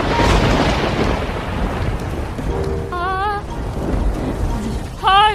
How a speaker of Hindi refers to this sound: कितनी खतरनाक आवाज थी बादल गरजने की, मुझे मालूम है।